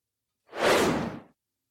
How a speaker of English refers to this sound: And I promise you, that's the last whoosh for today.